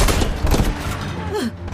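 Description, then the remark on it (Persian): A loud burst of gunfire, several rapid shots packed into the first half-second, then a dense rumbling aftermath with a brief rising-falling whine near the end. “برایس گانر بهشون شلیک کنی”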